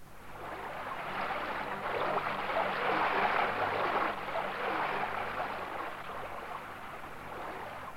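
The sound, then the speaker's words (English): A river flows steadily, its broad rushing hiss holding at a constant moderate level throughout with no pauses, no voices, and no distinct splashes standing out. “don't go near the river. You'll fall in.”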